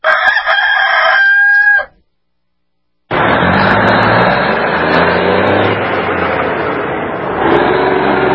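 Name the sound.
rooster crowing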